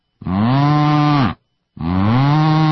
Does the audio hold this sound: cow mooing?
yes